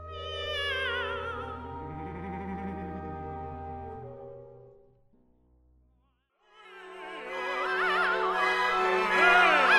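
Two cats yowl and caterwaul in long, wavering, drawn-out cries, loud, broken by a brief near-silent pause before the howling resumes even more intensely.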